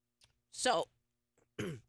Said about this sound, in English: And I'm going to apologize because I'm having a cough attack here because COVID's going around again.